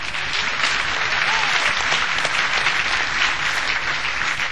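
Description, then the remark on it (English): A church audience claps for Jesus Christ during a sermon, a dense, sustained wash of applause at an even, fairly loud level throughout, with faint voices mixed underneath. “Clap for him.”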